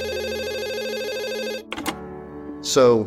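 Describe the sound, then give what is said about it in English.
A telephone rings with a loud, warbling electronic tone for about a second and a half, then stops as a person starts talking. The call is from an executive at Warner Brothers. “So I was working on a story and the phone rang, and it was an executive from Warner Brothers, a friend of mine”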